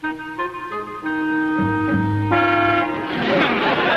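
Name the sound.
car horn honking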